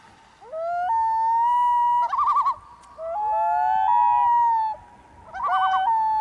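A common loon calls loudly and clearly: long, mournful wailing notes that rise and hold, broken by two quick quavering tremolo bursts, with no voices present.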